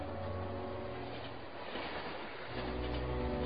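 A train of three private railway cars, taken by Vincent Astor travelling from New York, rumbles steadily along the rails, a continuous, dense roar with a deep low hum that swells slightly near the end. No voices are present.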